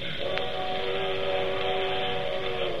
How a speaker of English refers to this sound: That's the only thing I don't like. Them train whistles.